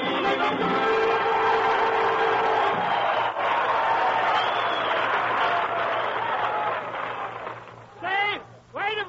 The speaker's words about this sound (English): Save that applause, ladies and gentlemen. You'll need it to congratulate Harry Von Zell.